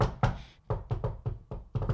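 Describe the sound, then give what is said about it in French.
A rapid series of about eight firm knocks on a locker-room door, fairly loud, landing in an uneven rhythm like a tapped-out tune. “Mais je l'ai pas reconnu quand il a cogné à la porte, mais je me demande si c'était pas sa chanson thème qu'il faisait.”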